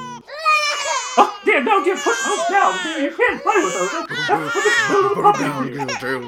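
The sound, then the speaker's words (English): Several toddlers cry and wail over one another in high, strained voices as two of them fight over a rubber ball, a continuous, fairly loud tangle of overlapping sobs and shrieks with some fussy babbling mixed in. “Two of them, two of those toddlers, they're fighting over that rubber ball.”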